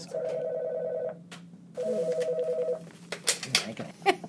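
An office desk phone in an office in Times Square rings in two electronic bursts, then falls silent as sharp plastic clicks and clatter follow as a man unplugs the phone.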